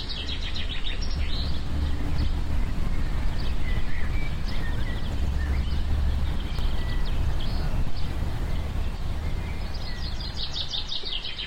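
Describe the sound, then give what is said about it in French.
Trucks and a car roll past on the rue de la Bellemire, a steady low rumble with some rattling, while birds chirp and tweet faintly above the traffic noise. “Alors il me semble avoir entendu des camions, une voiture, un brinque-ballet dans la rue de la Bellemire.”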